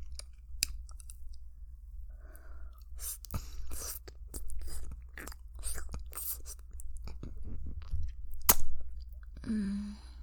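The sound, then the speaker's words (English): Wet licking and slurping mouth sounds as someone licks a sex toy, with saliva dripping, a steady run of sticky smacks and clicks for about ten seconds, with a brief murmur near the end. “I'm just like licking it up, and then my mouth is so salivy that I'm not swallowing it before sticking it back in my mouth.”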